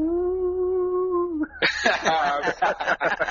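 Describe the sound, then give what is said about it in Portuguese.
A voice holds a steady, hollow howling tone for about a second and a half, imitating wind howling through the crack of a slightly open window, then breaks into bursting laughter. “Outro bagulho que dá medo assim é quando tá só a frestinha da janela e começa a fazer aqueles uivos, né?”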